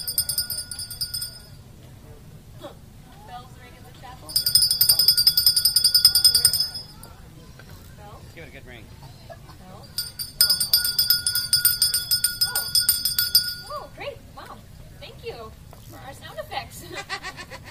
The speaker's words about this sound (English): In the middle of that day, around noon or so, everything closes up early. The bells ring in the chapel, and everyone goes home early.